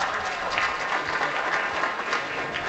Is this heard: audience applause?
yes